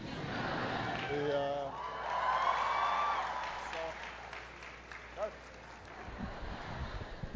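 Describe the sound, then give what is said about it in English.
An audience cheers and claps for several seconds, with a few high whoops and shouts rising above the steady wash of applause, which then thins and fades toward the end. “I wasn't trying to get a cheer out of that”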